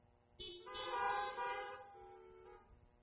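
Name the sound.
car horns honking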